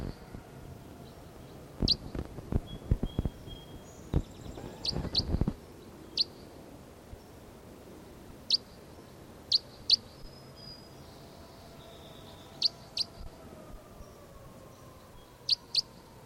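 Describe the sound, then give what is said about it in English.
A recorded call of bird 306, repeated as short, sharp, high-pitched chirps at irregular intervals over a quiet background, with a burst of clicking rustles early on and no talking. “Going to bird 306 again.”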